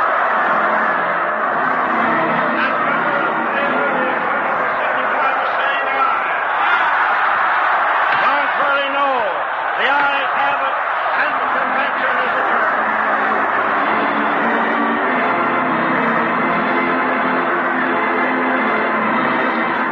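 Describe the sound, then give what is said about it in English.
A dense, continuous roar of the crowd at the Democratic National Convention as delegates vote on a motion to recess, many voices blending into a loud, steady wash of noise with no pauses, swelling slightly in the middle and holding strong throughout. “Indiscriminate roar from the crowd.”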